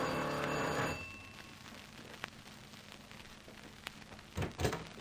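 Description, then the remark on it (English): The doorbell at the Lamont house rings loudly for about a second with a harsh, buzzing metallic tone, then stops, leaving faint hiss, a couple of sharp clicks and a short rustling thump at the end. “All right, ring the bell.”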